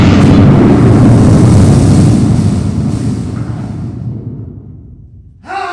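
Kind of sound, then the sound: sound effect, explosion sound effect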